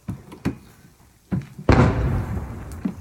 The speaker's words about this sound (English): You hear that? That's 152 caliber Russian artillery.